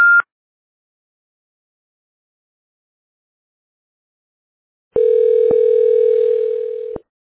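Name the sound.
phone system tone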